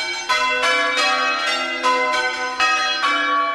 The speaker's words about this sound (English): Ringers climb up the tower and stand in a circle. Each takes charge of one bell, pulling a rope to make it sound in sequence with split-second accuracy. And the sequence changes on every line.